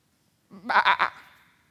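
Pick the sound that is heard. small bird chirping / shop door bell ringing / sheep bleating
sheep bleating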